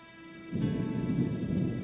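A low rolling rumble of thunder swells in abruptly after a quiet half-second and keeps growling loudly and close, with a faint wash of rain underneath and no voices.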